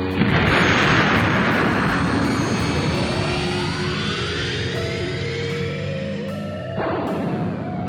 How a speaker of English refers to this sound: And with that, the mighty wave motion engine takes hold of multidimensional space and twists, finding the seam and hurtling the Argo through the gap into space between existences.